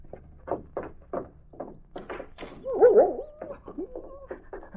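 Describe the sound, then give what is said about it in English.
A dog named King lets out a string of short, sharp barks at an uneven pace, breaking into a high, wavering whimper partway through before the barking resumes. “Where was the dog going anyhow?”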